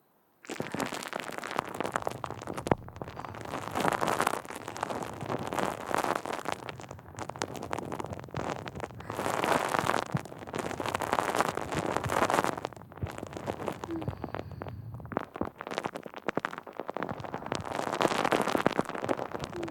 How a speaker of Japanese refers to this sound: お耳の中にもたっぷり泡入れて、シュワシュワパチパチしようね。